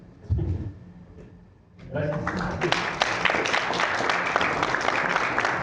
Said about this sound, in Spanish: Gracias. Un doble aplauso.